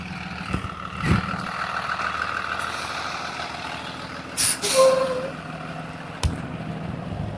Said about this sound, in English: school bus.